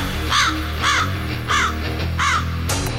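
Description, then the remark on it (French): A crow caws four times in spring as the snow melts, in a steady, evenly spaced rhythm, each call harsh, over a low continuous background hum with no one speaking. “La neige fond, la verdure apparaît, les oiseaux chantent et CKRL prépare sa programmation d'été.”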